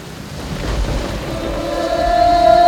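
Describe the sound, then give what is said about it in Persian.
Steady rain hisses over a deep rumble of thunder, swelling gradually louder, with a sustained musical tone emerging toward the end. No voices. “بارون که میباره حالم غریبونم”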